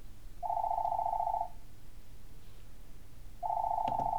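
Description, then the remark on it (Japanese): A home telephone rings in the evening in two long electronic bursts about two seconds apart, a steady mid-pitched tone, fairly loud, with no one speaking. “その日の夕方、再び自宅の電話が鳴った。”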